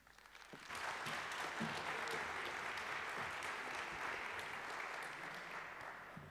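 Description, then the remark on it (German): An audience bursts into applause to welcome a speaker after a quiet start, a dense, steady clatter of many hands clapping that holds strong for several seconds before easing slightly near the end. “Einen großen Applaus, welcome.”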